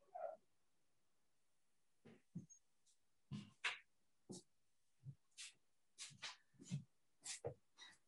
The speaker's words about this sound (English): Wait a minute, I got to deal with this dog. Wait a minute. Elbánok a kutyával, várj egy pillanatot.